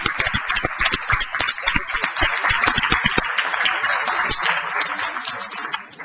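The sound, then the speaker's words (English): A round of applause from a group at a board of directors meeting, dense overlapping claps forming a steady, loud wash that holds for several seconds before thinning slightly toward the end. “And on behalf of a grateful board of directors, let's have another round of applause for these fine.”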